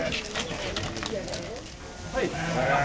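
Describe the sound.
A flock of ewes bleats in southern Aveyron, France, with wavering cries rising toward the end over a busy outdoor background where faint birdsong and murmuring voices blend in.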